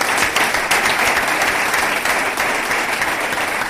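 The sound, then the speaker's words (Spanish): Sustained, long ovation from a large crowd at the farewell of Julián Calero, a dense steady roar of many hands clapping at once, loud and continuous throughout without any voices standing out. “Larga ovación la que tuvo Julián Calero en el momento de su despedida.”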